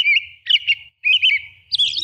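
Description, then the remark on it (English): A robin sings clear, warbling phrases of its evening song, played back at half speed, in two bursts separated by a brief pause, fairly loud with no voices present. “In the high latitudes, where twilight lingers late into the evening, a robin may expand its daytime carols into a twilight symphony that continues for hours.”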